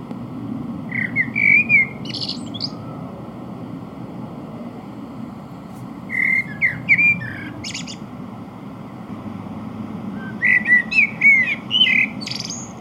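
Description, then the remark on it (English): A Eurasian blackbird sings at midnight in Sweden, three separate warbling, fluty phrases with pauses between them, set against a steady low background rumble. No one speaks. “Here's a recording of a Eurasian blackbird singing at midnight in Sweden.”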